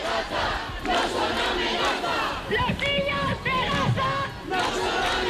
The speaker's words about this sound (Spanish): mensajes que están gritando a esta hora, pero también has podido recoger algunos, ¿verdad?